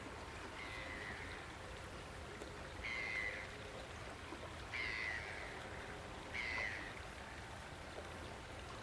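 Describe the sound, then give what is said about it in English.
A bird on a river bank gives four short, clear calls at a steady pace, each rising above the constant rush of a fast-flowing river. “Just looking at some birds on the bank side.”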